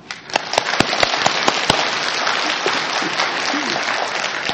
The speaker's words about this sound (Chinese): 以谦卑的心来领受如何传福音，为他们来鼓掌好吗？